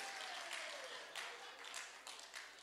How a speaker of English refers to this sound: Clap for the sister.